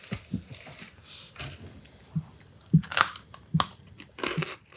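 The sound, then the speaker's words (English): Loud crunching of hard candy lollipops being bitten and chewed, with sharp irregular cracks every half second or so and no talking. “Crunchy, on-the-go treats that won't melt.”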